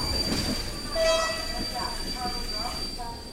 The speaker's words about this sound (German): Scheppernd schleppt sich der Zug der rumänischen Eisenbahn durch die Dunkelheit.